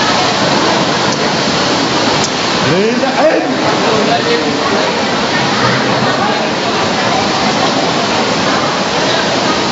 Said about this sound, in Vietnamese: Nhanh lên, mưa to rồi, mưa to rồi. Mau lên, mưa cứ ướt hết.